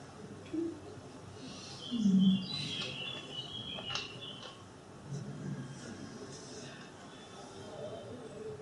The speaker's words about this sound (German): The birds are always here. The birds don't care.